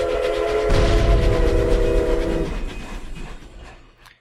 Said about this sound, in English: Okay, let's hit it with this. Deep Run Tram, last call for mail.